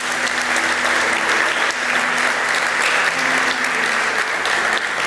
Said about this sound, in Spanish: Fuerte el aplauso a Cristo Jesús.